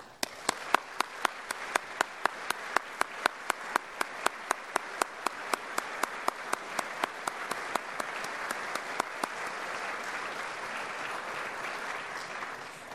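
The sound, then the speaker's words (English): A round of applause at a graduation ceremony for the class of 2020, given to the counselors: one sharp, steady clapper stands out over a growing wash of crowd clapping, and the crisp individual claps fade into the broad applause at the end. “So on behalf of the graduating class of 2020, please join me in giving a round of applause to all of our trusted counselors.”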